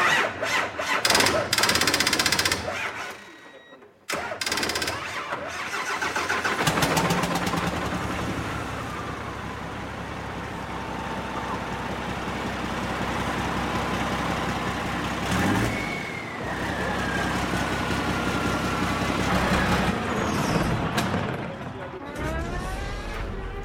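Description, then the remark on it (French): A powerful 7.4-tonne, 1200-horsepower racing truck engine, started with a 12-volt battery cart, cranks to life after a brief pause, then runs loud with a deep, throbbing rumble and occasional revs, voices faintly audible beneath it. “Il va y avoir beaucoup de bruit, parce qu'à bord, ce mastodonte de 7 tonnes 4, propulsé par 1200 chevaux”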